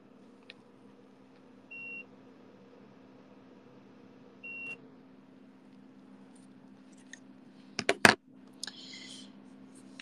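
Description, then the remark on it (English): Two short, high electronic beeps from a remote control turning off an air conditioner, a few seconds apart, over a steady low hum, followed near the end by a quick cluster of sharp clicks and clatter. “Sorry, I'm kind of dying here, but if you want me to suffer, which you probably do, I'll turn it off. God damn it. I hate this remote.”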